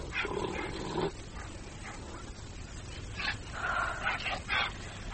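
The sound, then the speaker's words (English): Two watchdogs inside a palace bark and whimper in short bursts, a mix of yelps, yips and whining cries over a steady low rumble, with no talking. “Oh, God, the dogs.”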